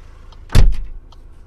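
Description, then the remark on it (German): Quiet interior of a car stopped in the middle of a country road, with a low steady rumble, interrupted by one heavy, muffled thud like a car door shutting, then settling back to calm. “weil ich bin natürlich hier im Auto.”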